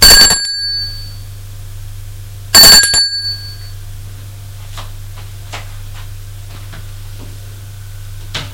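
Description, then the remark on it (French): An apartment doorbell rings twice, each ring a sharp metallic strike with a short, bright ringing decay, the second about two and a half seconds after the first, over a steady low electrical hum. “Hésitant, il sonne à la porte de l'appartement.”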